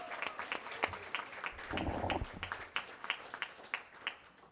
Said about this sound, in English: how about another warm round of applause for Senator Suzanne Chun Oakland